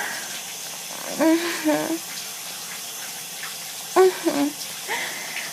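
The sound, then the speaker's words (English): A steady hiss of running water flows throughout, like a tap or shower, with a few short vocal sounds rising briefly over it. “Oh, this water feels really good on my clit.”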